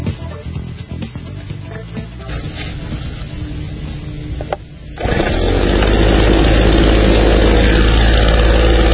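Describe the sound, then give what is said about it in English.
A two-stroke leaf blower at the Auto World Plaza sputters at a rough idle, then revs abruptly into a loud, steady roar that holds to the end. “We're in the leaf-blowing studio right here in the Auto World Plaza, and that leaf blower, oh, yeah, the smell of the two-stroke.”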